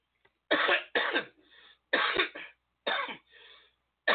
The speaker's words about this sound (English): Oh my God, I'm over here coughing and I'm not even smoking. It's ridiculous.